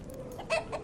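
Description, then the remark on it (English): A perched chicken clucks a couple of short, bright bursts nearby, the second one softer, over a low steady background hum. “A chicken perched nearby seems to laugh at him, and he glares at it.”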